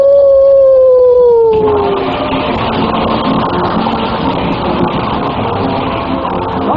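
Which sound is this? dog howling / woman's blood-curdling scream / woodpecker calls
dog howling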